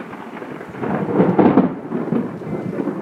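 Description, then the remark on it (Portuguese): A deep, rumbling thunderclap from a lightning strike swells to a heavy peak after about a second, then rolls on in a low, sustained growl, with a faint rain-like hiss underneath. No one speaks. “Xangô, entre nuvens, chegou com seu raio e o lançou sobre a colina Okere.”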